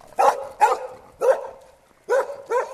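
A dog barks five times in loud, sharp, mid-pitched bursts: two quick barks, a single one, then a short pause before a final pair. No one speaks.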